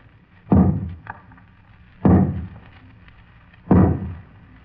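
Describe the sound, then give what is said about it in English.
Three heavy, resonant knocks of an archbishop's crozier on a large, closed, carved wooden door during a procession, evenly spaced about a second and a half apart, each booming and echoing briefly in a reverberant space. “The Archbishop steps forward, knocks upon the closed door with his crozier.”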